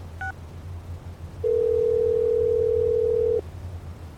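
A steady telephone dial tone hums for about two seconds, loud, after a brief pair of short electronic beeps, as a phone number is being dialed, with a low background hum underneath and no talking.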